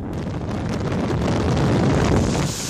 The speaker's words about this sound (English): Professional daredevil Yves Rossi, who calls himself Jetman, is technically flying a jet-powered wing. He looks kind of like a miniaturized F-16 fighter jet.